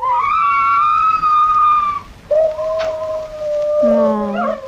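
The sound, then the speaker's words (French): Coyotes calling to one another: long, wavering, high-pitched howls from several animals, overlapping and sliding in pitch, loud and steady throughout with no one talking. “Donc, les coyotes ont des périodes où ils s'appellent entre eux”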